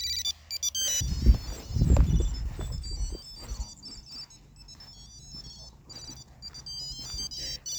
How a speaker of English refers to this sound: It's a tracker that attaches to your disc. Yeah. And then this is the sound that it makes here once it connects.